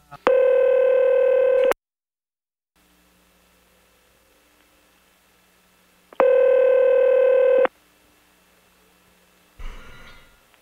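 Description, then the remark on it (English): A telephone dial tone sounds twice as two long, steady electronic tones separated by several seconds of quiet hiss as a call is dialed. A brief rustling clatter follows near the end. “Then we're going to have to get him back on the phone again.”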